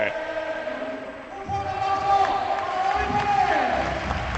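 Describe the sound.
A large crowd at the Caja Mágica chants 'Ferru' in unison for tennis player David Ferrer, a repeated two-syllable name rising and falling over a steady, echoing roar of many voices.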